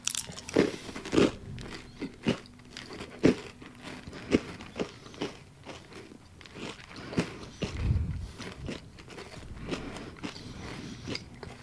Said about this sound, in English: Can you hear the crunches, guys? It's definitely a sugar cookie. There's definitely that flavor.